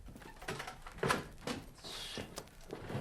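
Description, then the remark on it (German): A castle door opens to let a trader in, with a few sharp clicks and knocks from the latch and handle followed by a short scraping swing. No one speaks. “Mach doch die Tür auf und lass mich rein.”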